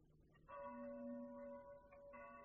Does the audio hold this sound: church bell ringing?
yes